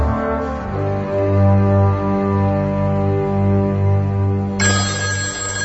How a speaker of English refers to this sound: the phone.